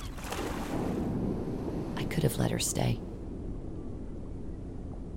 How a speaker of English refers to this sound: We look out at the sound of a motor, a boat heading towards the first catch of the day.